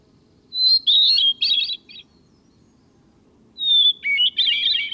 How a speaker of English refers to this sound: Even within the thrush family, which includes many highly renowned singers, the hermit thrush stands out. Its song has been described as ethereal, serene, or flute-like.